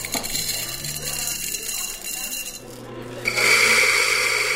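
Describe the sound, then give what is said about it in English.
A beefy coffee grinder at the Ruby Coffee Roasters Cafe in central Wisconsin grinds beans with a steady, coarse rasping whir and a faint low hum underneath, jumping louder and brighter for the last second or so. “This is a pretty beefy grinder. I like how this one sounds.”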